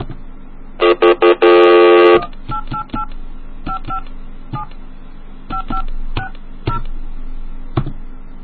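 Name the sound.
telephone keypad dialing tones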